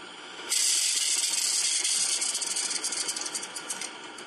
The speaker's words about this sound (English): It's dendritic, D-E-N-D-R-I-T-I-C, dendritic ice crystals growing.